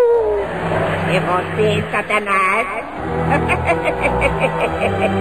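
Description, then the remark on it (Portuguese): A cat meows in several drawn-out, wavering calls, fairly loud, over a steady low rumble with voices mixed in throughout. “Não, é o outro gato. Quem tá aí?”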